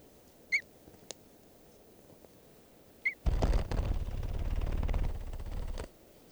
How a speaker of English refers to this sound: Starting at 10:48 a.m. and I hear some crossbills, wild red crossbills. Sound like threes.